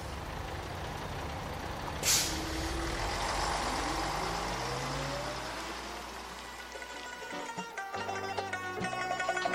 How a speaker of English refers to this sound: Okay, I've made a trip to Tabriz. However, my destination is Azarshahr, which is about 50 kilometers away from here. Aha! Here's the bus. Let's go!